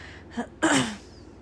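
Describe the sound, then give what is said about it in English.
An abrupt throat clearing: a brief sharp intake followed by one harsh, forceful burst that trails off quickly, alone against a quiet background with no talking. “Sorry for clearing my throat.”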